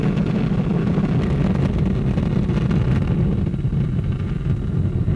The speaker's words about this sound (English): That rumble echoing across the Amazon jungle is the mighty Ariane 5 as it roars into the skies above Kourou. 54 seconds into flight, Ariane 5 has already broken the sound barrier.